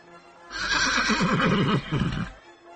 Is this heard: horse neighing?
yes